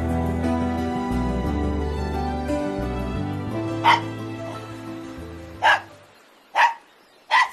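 A small dog gives four sharp, separate barks, spaced irregularly, over a low, steady humming tone that fades away, leaving the last barks almost alone.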